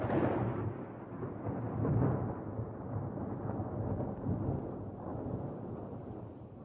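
A thunderstorm roars with a deep, continuous rumble of thunder and heavy wind buffeting, swelling loudly near the start and around two seconds, then churning steadily with no voices.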